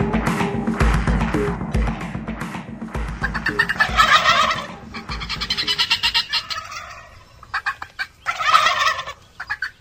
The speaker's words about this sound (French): Ça, c'est le glouglou, le doux glouglou du dindon sauvage.